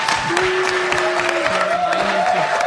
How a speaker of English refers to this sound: And a huge round of applause to our panelists.